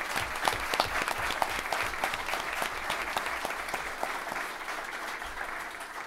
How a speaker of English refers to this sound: Congratulations. So round of applause one more time, you guys.